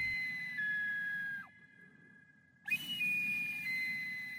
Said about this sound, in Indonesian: Jadi ketika saya keluar dan memainkan alat musik saya, suara suling itu menarik semua jenis binatang.